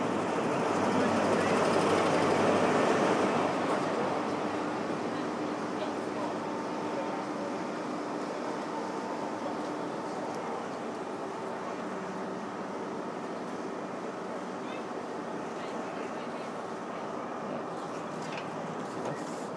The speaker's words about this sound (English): Sounds like the train coming. Yeah, here it comes.